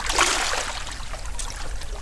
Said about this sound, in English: Well, there we can hear the sounds of the waves lapping here on the Dead Sea. It's 10 minutes after 9 o'clock.